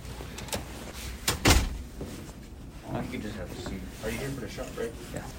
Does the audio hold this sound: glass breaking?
no